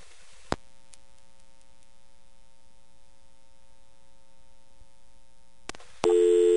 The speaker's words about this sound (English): Let's see if the test codes are on the same... in the same place as they are in California. For let's try ANAC, which is... That's a short dial tone.